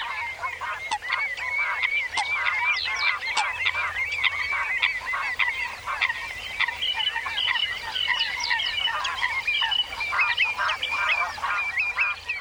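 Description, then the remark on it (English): A dense flock of wild geese at a wetland, one of the most important in Europe, honking and calling over one another, a continuous overlapping chorus of nasal cries that stays loud and busy throughout, with no speech. Recorded by Richard Margoshis for the British Library National Sound Archive CD. “Richard Margoshis recorded these birds gone wild for the British Library National Sound Archive CD, ….”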